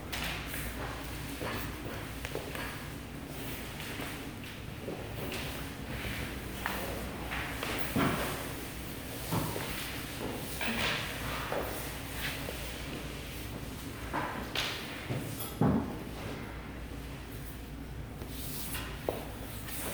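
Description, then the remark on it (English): Busy sounds of people moving chairs aside: scattered footsteps and scraping, bumping thuds of chairs being shifted around, with a steady low background hum and no clear talking. “Just move the chairs. If you stack them, they might fall.”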